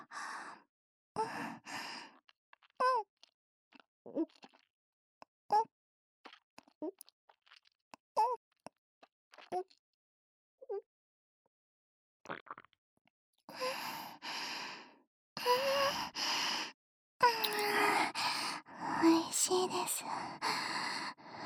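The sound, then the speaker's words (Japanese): A string of short, soft gulping swallows in a steady rhythm, followed by several louder, breathy sighs and exhales after drinking. “どうせなら、ごくごくって飲む音、聞かせてあげます。”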